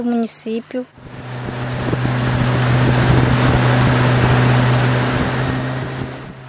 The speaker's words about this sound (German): Mit dem Boot der indigenen Organisation Copimi geht es weiter auf dem Rio Negro.